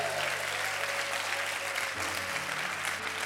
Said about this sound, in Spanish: Si usted lo cree, denle un aplauso fuerte a Jesús.